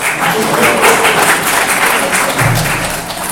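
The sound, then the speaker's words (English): The women in an audience clap steadily for a few seconds, a dense, sustained patter of many hands at even loudness, with a brief low thump partway through. “Can all the ladies clap their hands?”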